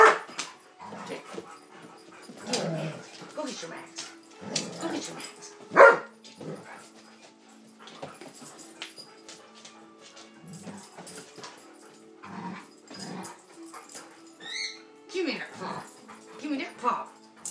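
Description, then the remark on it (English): A male dog, about to be groomed, whines and whimpers in high, rising yelps over about seventeen seconds, broken by a single sharp, loud bark partway through and more short excited yips toward the end. “He is acting like he's full of puppy life.”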